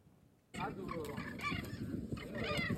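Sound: birds calling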